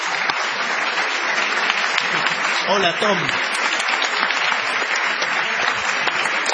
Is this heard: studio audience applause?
yes